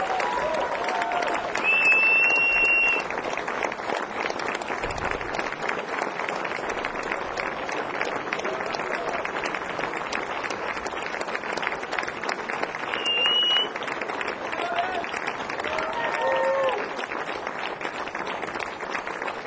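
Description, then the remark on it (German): A large crowd gives loud, sustained applause that keeps up steadily for the whole twenty seconds, with a few sharp whistles cutting through the dense clapping. “Holt sie raus mit einem tosenden Applaus.”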